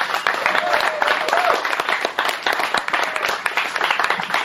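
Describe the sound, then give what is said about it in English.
A crowd at Tony's Corner Pocket applauds steadily after a live music performance, a dense wash of many hands clapping at once, loud and sustained throughout with slight swells, with faint voices and a brief whoop mixed in. “Two more rounds of applause.”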